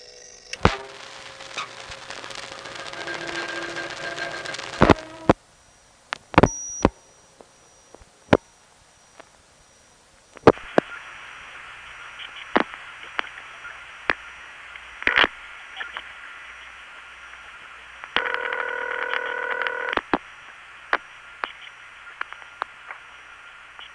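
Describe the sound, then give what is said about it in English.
Crossbar telephone exchange switching noises over a crossbar 1 phone line during a long-distance call dialed to Kansas City: bursts of hiss and line noise broken by a string of sharp clicks and clunks, irregularly spaced, with no voices. “You'll notice that you don't hear tones on long-distance calls from crossbar 1. Instead, you get a series of noises that sound like a bunch of doors opening and closing.”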